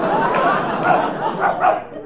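dog barking

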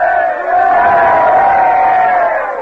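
crowd giving three cheers

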